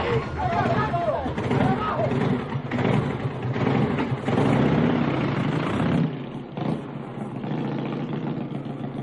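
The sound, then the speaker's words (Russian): A motorcycle engine runs loudly in a forest under a jumble of rough male voices talking over each other; the noise stays steady, then thins slightly toward the end as the motorcycle drives away. “Вдруг мальчики услышали выстрелы, шум грубых мужских голосов и звук отъезжающего мотоцикла.”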